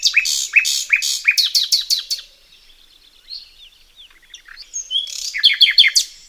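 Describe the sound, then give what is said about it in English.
A bluethroat sings alone in bright, rapid phrases of repeated ringing chirps, pausing midway for softer, scratchy twitters and buzzy notes before another loud burst of quick, high, metallic trills. “One of the blue throat's closest relatives is the famed nightingale.”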